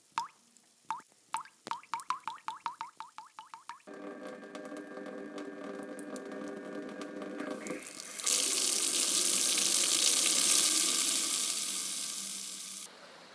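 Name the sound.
water running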